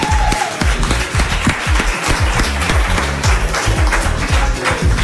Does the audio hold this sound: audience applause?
yes